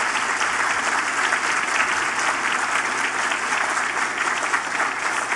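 An audience applauds steadily, a dense, even wash of many hands clapping that holds at a loud, constant level for the whole stretch, with no voices standing out.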